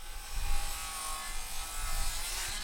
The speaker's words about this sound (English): Instead of wood ovens smoking, the saws are going.